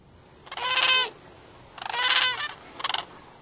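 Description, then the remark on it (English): Three loud, rolling trumpeting calls from large gray and crimson sandhill cranes, each a rattling bugle with a rich harmonic tone; the first two are longer and the last is a short burst, with no talking. “The gangly birds are known for a feisty mating dance and a loud trumpeting call.”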